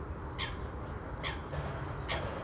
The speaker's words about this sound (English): You may be able to hear that loud cry of the coot just there as it flaps its wings wildly to brush off the water that it collected on landing.